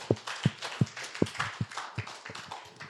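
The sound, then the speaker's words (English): An audience applauds for a pastor, with a few sharp, steady claps standing out over a softer wash of scattered clapping. No one speaks. “Let's give our applause for this pastor as well.”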